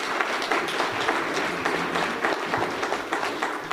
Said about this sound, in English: you might want to, while the kids are getting up on stage, give a quick round of applause for the RE Kids for doing this.